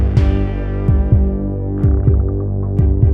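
A deep, throbbing heartbeat sound effect thumps in steady lub-dub pairs, about once a second, over a sustained low droning hum, with no voices.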